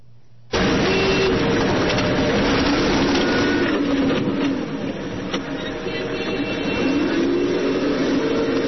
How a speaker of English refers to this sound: But this is a Humvee driving in traffic. And every time you see it approach a car and give a little tap, it's actually hitting the back of the car, pushing them out of the way. Let's show how Americans drive in Iraq.